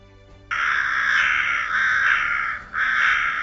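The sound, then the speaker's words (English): Loud, harsh crow caws: a long rasping call, then a second, and after a brief gap a third begins, with no one speaking. “Treats for the crows.”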